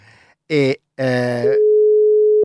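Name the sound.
phone line ringing tone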